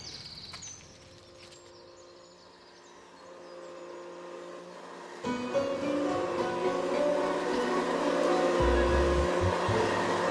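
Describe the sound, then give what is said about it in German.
A modern vacuum cleaner with a fine-dust filter switches on partway through to clean a carpet, its steady droning whine and hiss replacing a quieter hum and growing louder, with a few low bumps near the end. “Der Lärm von den Stoffsuger beruhigt ihn.”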